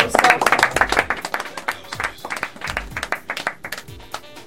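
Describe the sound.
A burst of audience applause for the band a band as it is introduced, dense rapid clapping that is loudest at the start and thins into scattered, uneven claps, with faint voices mixed in.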